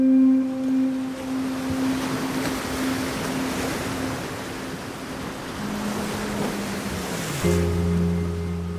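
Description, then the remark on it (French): Ocean waves wash in a continuous, fairly loud rush, while a steady low engine-like hum runs underneath and shifts to a deeper, fuller drone near the end. No one speaks. “Et aujourd'hui, avec elle, vous allez l'entendre, chers auditeurs, la vague est plus que jamais une onde.”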